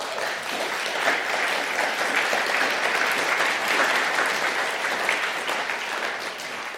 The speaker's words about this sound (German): Ich wäre jetzt dazu geneigt, euch zu einem Applaus zu animieren, aber ich weiß nicht, ob ihr das hinkriegt.